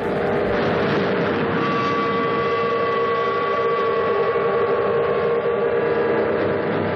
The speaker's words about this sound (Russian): Ровно в 12:00 салют, а по всей стране загудят паровозы и теплоходы.